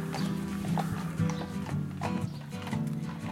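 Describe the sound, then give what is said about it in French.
Hooves of draft horses clip-clop at a steady walking pace, fairly loud, over a continuous low droning rumble of the horse-drawn caravan of Radio Roulotte rolling along; no one speaks. “On va faire de la radio dans une roulotte tirée par des chevaux de trait.”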